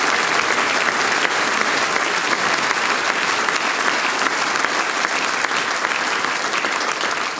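An audience claps steadily for several seconds for the sound technicians of a singers' and musicians' gathering, a dense, even wash of many hands with no pauses or swells, holding at a constant loud level throughout.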